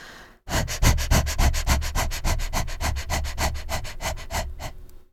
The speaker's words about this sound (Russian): Давайте я вам это продемонстрирую. Это короткие вдохи и выдохи диафрагмой. Именно из-за этих быстрых движений диафрагмы меняется внутрибрюшное давление и начинает ослабевать потуга.